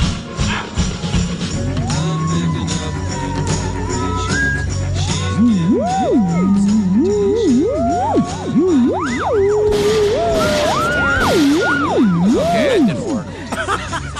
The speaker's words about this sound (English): Please do not disrespect my theremin.